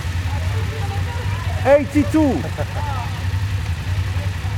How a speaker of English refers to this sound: Is there anything more evocative than the sound of a group of BMW motorcycles? I don't think so. Think of the sight and sound of over 100 BMW 850 GS bikes together.